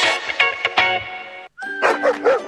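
Several dogs of the Corporación Mirada Animal Chile bark and yip in quick, overlapping bursts, loud, with a brief silent gap midway before another excited round of barking and whining, at the new Centro de Control y Recuperación Canina.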